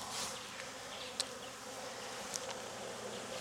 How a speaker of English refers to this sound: These are nice bees so far. I may get stung, but I'm gonna risk it till I do. Oh, I can see so much better. They're in a good mood.